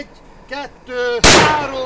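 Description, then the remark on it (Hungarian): A single sharp rifle shot cracks out loudly, its roar trailing off into a ringing decay, after a few brief tonal, voice-like calls; fired in a trench during the filming of a movie. “Aki lőtt, az egyből ürít is.”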